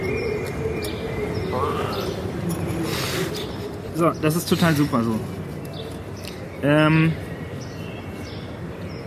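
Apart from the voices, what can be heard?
birds chirping outdoors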